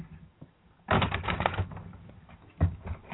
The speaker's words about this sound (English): I'm shuffling the cards. Shuffling the cards as we speak right now. Shuffle, shuffle, shuffle. I need you to tell me when to stop shuffling these cards.